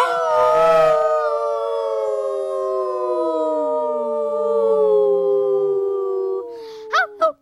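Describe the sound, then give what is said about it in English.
Several family members howl together like wolves after a countdown, long overlapping wavering tones sustained for about six seconds, then breaking off into a couple of short yips and laughs at the end. “Should we do a final family howl? The only way that wolves know how.”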